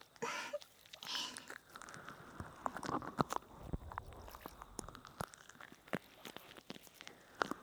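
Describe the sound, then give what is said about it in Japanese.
Dense soapy foam crackles and pops in a continuous stream of tiny, sharp clicks, with occasional louder snaps and soft squishy rustling underneath. No voices are heard. “パチパチと泡が弾ける音がどうですか？”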